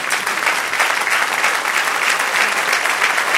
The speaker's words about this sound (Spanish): Dale aplauso al Señor.